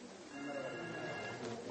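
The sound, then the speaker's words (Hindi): A mobile phone rings with a steady electronic ringtone, fairly quiet and mixed with a low murmur of background noise. “हाँ क्या मोबाइल यहाँ दिखाने के लिए लाते हैं?”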